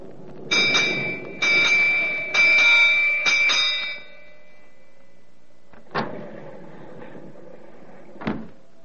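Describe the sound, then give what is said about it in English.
A ship's bell strikes the hour in the wheel room of a ship headed for the Caribbean, ringing four times at an even pace, each bright metallic strike lingering into the next, followed by two sharp, hollow knocks after a short pause. “The striking of the hour is expected momentarily inside the wheel room.”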